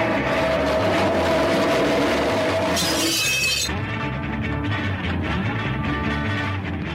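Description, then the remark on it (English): A metal folding chair is dragged loudly across the concrete floor of a recording studio with a harsh, screeching grind, then a glass is broken with it in a sudden bright crash, followed by continued rough clattering noise. “drags a metal folding chair along the concrete floor of the recording studio and then breaks a glass with it.”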